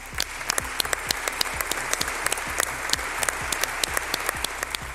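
long applause

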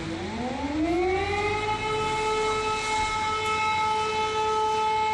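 air raid siren wailing

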